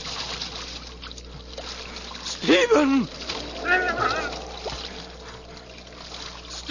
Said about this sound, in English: There was nothing but jet-black water, flowing swiftly.